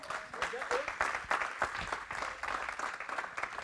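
An audience applauds steadily for a woman who has been called up, a dense patter of many hands clapping at once, holding a fairly even loudness for a few seconds with a faint murmur of voices underneath.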